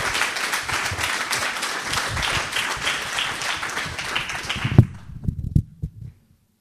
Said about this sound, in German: Also, merci vielmals, geben wir dem Kuri einen Applaus, dass er auf Reden gekommen ist.